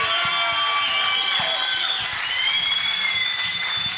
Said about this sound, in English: A rightful standing ovation.